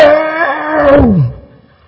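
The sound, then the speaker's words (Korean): A man's voice imitates a hungry lion's roar, the way a lion was heard roaring at a zoo: one loud, sustained growl that builds, then slides down in pitch and trails off into quiet. “사자가 언제 우는가 하면 배고플 때 웁니다. 배고플 때, 동물원에 가보니까 이렇게 울대요.”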